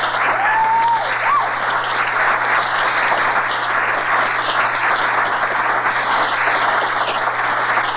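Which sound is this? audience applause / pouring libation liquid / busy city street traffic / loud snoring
audience applause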